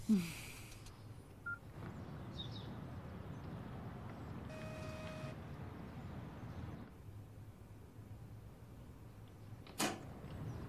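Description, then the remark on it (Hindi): A house door is opened for someone waiting at it: a sharp knock or clunk at the start, then steady background noise, and a brief latch click near the end, with no one talking. “आओ घर का दरवाजा खोलो।”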